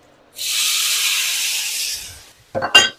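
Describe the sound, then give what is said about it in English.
A ribeye steak sizzles and bubbles in a pan with a loud, steady, bright hiss for about a second and a half, then fades, followed by a couple of quick clattering knocks. “Oh my god, I can just feel it bubbling.”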